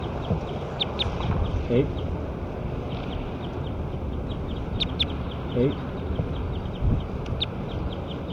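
A bird, recorded as bird 9, calls with short, high-pitched chirps repeated throughout, fairly faint over a steady wash of wind-like background noise, with a few lower, harsher honks here and there.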